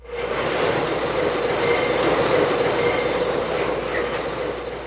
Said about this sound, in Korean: 석탄을 더 많이 넣자 기차가 빠르게 터널로 돌진했다. 엔진이 요란한 소리를 내는 가운데 터널을 지나자 신선한 공기와 환한 달빛이 그들을 맞이했다.